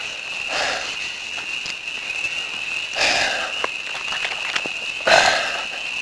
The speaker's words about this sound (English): I hear the frogs.